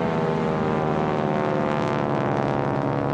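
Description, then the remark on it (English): A World War II propeller airplane drones steadily overhead, its engine hum loud and continuous with rich layered harmonics, no voices present. “I believe that the ghosts of the planes, stay with me here, are still making their bombing runs, which we'll be getting into in the next episode.”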